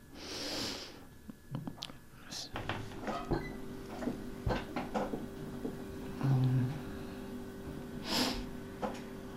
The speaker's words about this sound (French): J'ai entendu aussi que j'arrêtais pas de renifler. Sur... oui, c'est vrai, moi j'ai entendu aussi. Ouais. Ouais, tout le temps